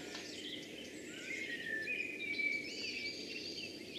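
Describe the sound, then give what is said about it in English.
Thin, high warbling birdsong, like a robin, trills faintly above a steady low outdoor hum; a wood pigeon may coo somewhere in the background, and no one speaks. “Robin, wood pigeon, I think there was a pheasant as well.”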